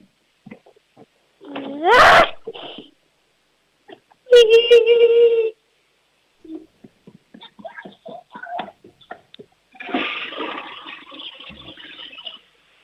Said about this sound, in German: Wow, das war eine tolle Klospülung